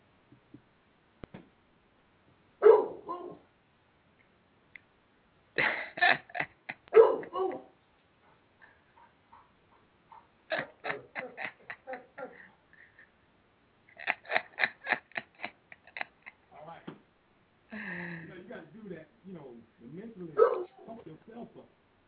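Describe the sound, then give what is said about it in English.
A dog barks in sharp, rapid bursts, several quick yaps per cluster, with short silent pauses between each volley. The barks are fairly loud and high-pitched, with no talking over them. “Yeah, the dog is working out after the show.”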